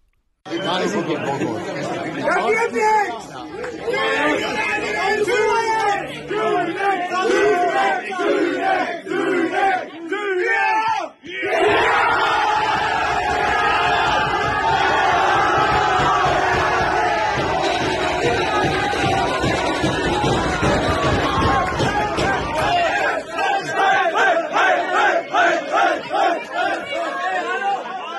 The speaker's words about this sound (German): Der entscheidende Elfmeter wurde pariert und der Jubel war groß.